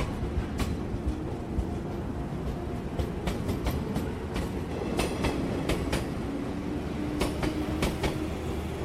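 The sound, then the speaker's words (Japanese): A train bound for Utsunomiya departs the station, rolling along with a steady low rumble, its wheels clacking over rail joints in irregular bursts, while a faint motor whine slowly rises in pitch. No voices. “まもなく宇都宮行き発車いたします。”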